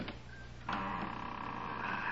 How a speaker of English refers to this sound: Here goes the lock. Now to open this door without making too much noise.